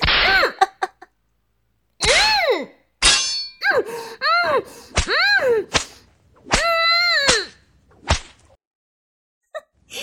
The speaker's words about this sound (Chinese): 小贱人，啊，这鞭子抽得你爽不爽啊？我的七情六欲鞭可不是普通的鞭子啊